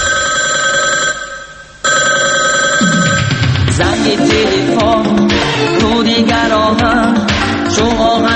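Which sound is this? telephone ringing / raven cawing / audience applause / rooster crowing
telephone ringing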